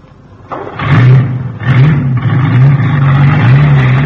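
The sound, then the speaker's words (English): A truck engine revs hard in a series of rising surges, loud, then keeps roaring steadily as the truck pulls away, driven off by Professor Tobin from the London Zoo. No one speaks. “Hey, where's he going with the truck?”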